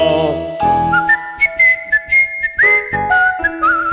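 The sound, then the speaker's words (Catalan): Someone whistles a bright melody with gliding, sliding pitches, clear and close, over a steady instrumental backing that pulses rhythmically beneath it. “perquè jo canto i ballo, ningú xiula com jo.”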